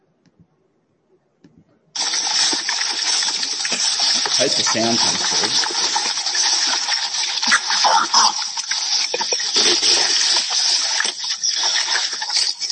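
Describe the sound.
Pigs feeding: after a short spoken remark, a loud, continuous wash of wet sloshing, slurping and splattering noise kicks in abruptly and carries on steadily to the end.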